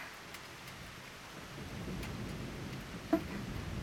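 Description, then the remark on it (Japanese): Steady heavy rain hisses throughout at a roofed bus stop, with a deep low rumble of thunder rolling underneath and a brief sharper crack near the end. No voices. “この音って、まさか雷？確かにこんな雨だし、雷が鳴ってもおかしくはないけど、さすがにこのバス停に落ちたりはしないわよね。”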